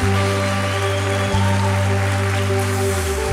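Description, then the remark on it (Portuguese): An audience applauds during a worship celebration in a dense, steady wash of clapping that holds at an even loudness, with a sustained keyboard chord droning underneath throughout. “Glória a Deus, aplauda, aplauda mesmo.”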